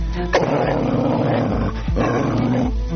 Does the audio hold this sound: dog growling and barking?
yes